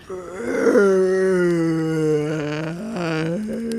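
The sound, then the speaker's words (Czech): A person imitates a dragon's roar: one long, strained vocal growl that opens with a raspy burst, then holds a low, steady tone for about three seconds with small shifts in pitch. “Wow, ty umíš hodně dobře napodobit draka.”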